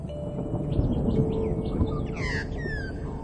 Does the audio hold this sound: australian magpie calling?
yes